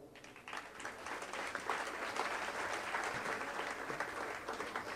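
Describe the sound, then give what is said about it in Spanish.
Steady applause from an audience, a dense continuous patter of many hands clapping at an even level for several seconds, with no voices rising above it. “Pero bien, gracias a todos ellos y para ellos un aplauso.”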